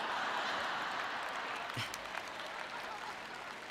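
A short burst of audience applause: many hands clapping in a dense, crackling wash that stays steady, then gradually thins and fades toward the end.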